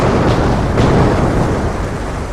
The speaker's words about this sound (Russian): Одна за другой с треском рвались топливные цистерны, взрывались боеприпасы. Внезапно над морем прокатился грохот слившихся воедино нескольких взрывов, глухих и мощных.